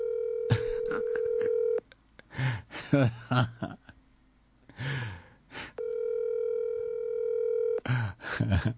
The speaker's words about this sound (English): I'm about to call Fresh right now. Hold on. He not going to pick up, though.